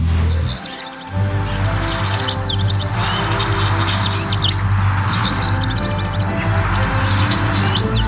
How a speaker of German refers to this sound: Und deswegen kann ich an dieser Stelle verkünden, der Vogel des Jahres ist der Hausrotschwanz. Und so ein Hausrotschwanz habe ich mir jetzt tatsächlich auch zugeschaltet.